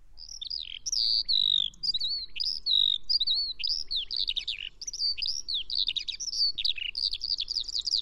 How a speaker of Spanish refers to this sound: está a unos 10, 15 metros de altura aleteando con un parloteo que incluye trinos, gorjeos, silbidos, llamadas, todo tipo de sonidos encadenados